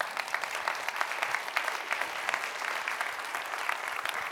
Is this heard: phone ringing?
no